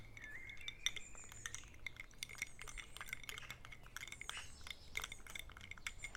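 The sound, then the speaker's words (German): Ice cubes clink and rattle against a glass of iced tea with a straw in quick, irregular bursts, moderately loud, with a faint low hum underneath and no one speaking. “Leckerer Eistee. Sogar mit Eiswürfeln und Strohhalm.”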